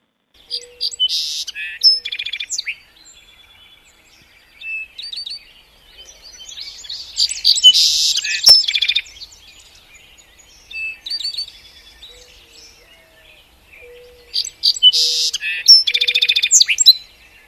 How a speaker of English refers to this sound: Well, you mentioned song sparrow, and we happen to have some sound from a song sparrow, so why don't we listen to that?